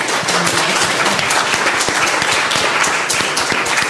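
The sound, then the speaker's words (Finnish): An audience applauds all the participants at the end of a discussion, a steady, dense, loud wash of many hands clapping with scattered sharper claps, sustained evenly throughout without any talking. “Vielä aplodit kaikille meidän.”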